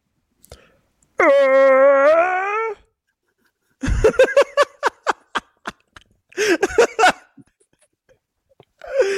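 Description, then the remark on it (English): A voice imitates a white whale call: one long, high wavering note, then a quick run of squeaky chirps and a final short warbling burst. “what sound does a white whale make?”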